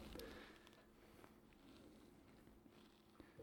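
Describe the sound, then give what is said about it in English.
Soft, wet chewing on a squishy Butterfinger peanut butter candy bar, a steady run of muffled, sticky mouth sounds with a few faint clicks, quiet and without any talking. “See how your chewing sounds kind of squishy?”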